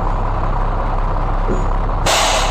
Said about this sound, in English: I was wondering what a Peterbilt 379 sounded like, specifically its air brakes. And so I got on YouTube to look it up. And I found a video featuring that sound.